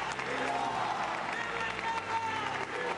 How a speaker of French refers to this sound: Hommes, femmes, enfants, toutes les générations étaient dans une même liesse, n'hésitant pas à interrompre Benoît XVI par des applaudissements ou des acclamations.